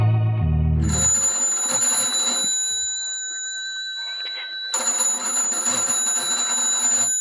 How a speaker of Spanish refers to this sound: El sonido del timbre telefónico retumba en el cuartucho envuelto en sombras.